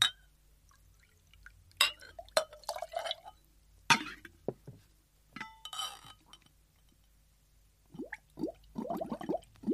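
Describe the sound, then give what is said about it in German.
Glass clinks and taps, followed by a short splashy pour of milk into a test tube heated over a flame, with some faint muffled sounds near the end. “Und jetzt die Milch rein.”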